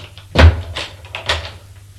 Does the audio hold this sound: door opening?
yes